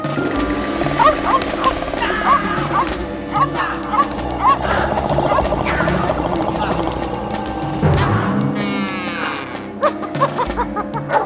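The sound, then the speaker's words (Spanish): A dog barks and snarls through a loud, chaotic scuffle as it fights a creature blocking its way, with growls and roar-like cries tumbling over one another for several seconds before a brief whooshing sweep. “Entonces el perro lucha para que lo deje pasar.”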